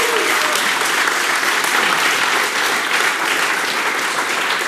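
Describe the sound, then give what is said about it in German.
Sustained audience applause for Beo and Coffee, a dense, steady wash of many hands clapping at an even loudness for several seconds, with no speech over it. “Applaus für Beo und Coffee.”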